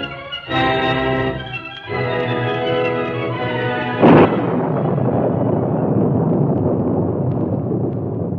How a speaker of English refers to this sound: Jagged lightning streaked across the evening sky. Rain fell in torrents, and the wind howled across the desolate countryside.